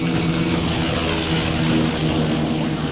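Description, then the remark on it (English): The Moscow helicopter arrives, droning loudly and steadily, its low engine hum and rotor throb continuous throughout with no voices. “Sir, the Moscow chopper is arriving.”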